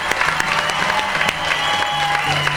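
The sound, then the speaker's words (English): A crowd, urged to raise their voices and make a lot of noise, claps and yells together in a steady, dense roar, with sharp hand-clap bursts popping through and sustained shouting voices underneath, loud throughout. “We need to yell and make a lot of noise.”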